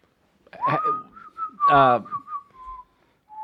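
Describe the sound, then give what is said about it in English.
One person whistles a short melodic phrase, the tone gliding and holding between notes, with a couple of brief voiced vocal bursts mixed in. “How would that sound? 1,900 people whistling together.”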